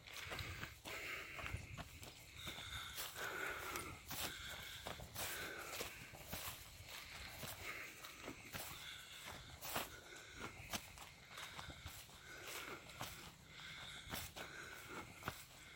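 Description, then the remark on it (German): Steady footsteps crunch along a forest path, moderately loud, with a regular walking rhythm and soft outdoor ambience; no one speaks. “Lass uns noch ein paar Schritte in Stille tun, in der Stille des Waldes.”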